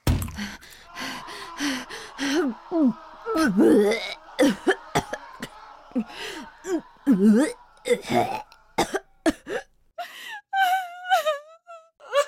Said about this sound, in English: I run to the bathroom and throw up.